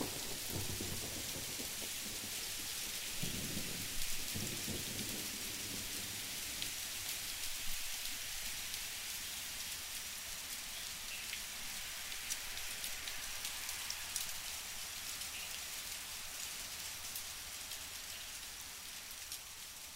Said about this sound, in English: Every day it storms at 5:30 and we run to the balcony for the light show.